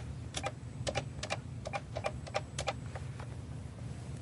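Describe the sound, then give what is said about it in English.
Dialing on an old PSTN landline phone to call into a contact platform as a customer: about a dozen quick plastic button clicks in uneven bursts, fairly faint over a low steady hum, with no one speaking. “So we've got our old PSTN phone here, and I'm going to dial in.”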